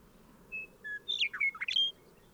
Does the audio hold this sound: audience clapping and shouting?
no